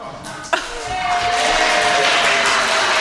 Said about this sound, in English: I'm here. Yay! It's worth a round of applause